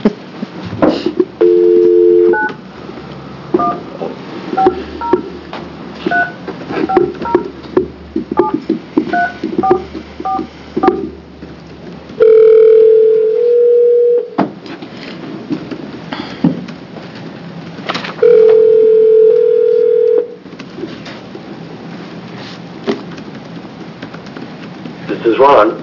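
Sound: telephone being dialed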